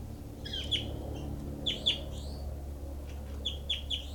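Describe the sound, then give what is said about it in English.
Bird calls repeat in short, high-pitched bursts, roughly three clusters of sharp chirps over a steady low hum, with no talking; a recording from bird 06. “Recording is bird 06.”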